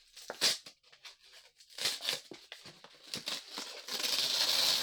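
A Letter Pack-style paper mailer marked "OPEN", holding an ordered toy, is torn open in a series of short, crackly rips, building into a longer continuous tear at the end, loud and bright with no talking.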